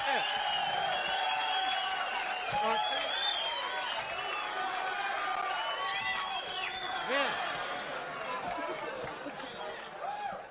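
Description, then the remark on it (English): A large crowd cheers and whoops, many overlapping voices in a dense, steady roar that holds for about ten seconds before easing slightly at the end. “Look for that crowd.”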